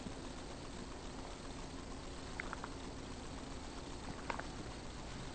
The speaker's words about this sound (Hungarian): Hát figyeljetek, lehet, hogy iszom egy pohár vizet, mielőtt elfelejtem, mert közben, mikor belelendülök, mindig el szoktam felejteni már.